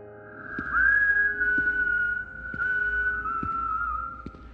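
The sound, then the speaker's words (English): A single eerie whistle holds one long, slightly wavering note for several seconds, steady, over a low hum with faint, evenly spaced ticks beneath it. “Turning the key, I froze as the whistling began a third time, now directly behind me.”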